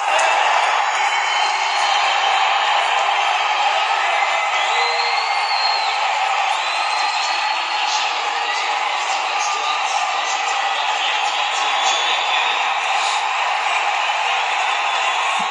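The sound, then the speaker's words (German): A dense, steady roar from a large football stadium crowd as the away side, Shamrock Rovers, score the equaliser, with scattered whistles and shouts and the home fans booing in a continuous wash of noise. “hört man natürlich nicht so gut, weil es dann rauscht und die Heimfans auch Buhrufe und das, ja, deshalb ist da jetzt nicht so viel vielleicht rauszuhören.”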